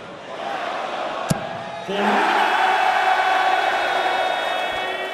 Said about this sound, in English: But they're also cheering the maximums. That's 3 in this match already.